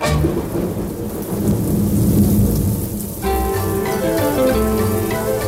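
Steady hissing rain with a deep, rolling thunder rumble fills the first few seconds, loud; then music with sustained tones comes in while the rain noise continues underneath.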